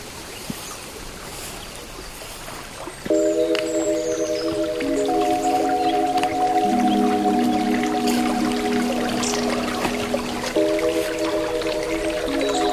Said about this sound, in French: Les fleurs, la verdure. Le clapotis de l'eau vous invite à une pause.